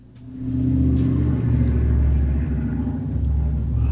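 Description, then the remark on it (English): A heavy truck rumbles by loudly, a deep, steady low-pitched drone that swells in within the first half second and holds for several seconds. “Did a big truck just go by?”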